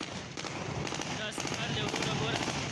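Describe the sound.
Rapid, overlapping bursts of celebratory gunfire by Taliban fighters in Kabul, Afghanistan, as the last U.S. service members left, crackle continuously, many shots fired close together at a steady loud level, with indistinct voices shouting underneath.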